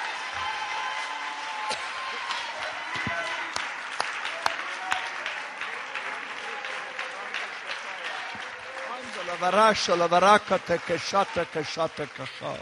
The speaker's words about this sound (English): If you believe that, clap your hands again and shout to the Lord for just a moment.